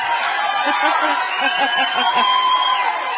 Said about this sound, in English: How about that? Don't we have some applause from that? It's huge!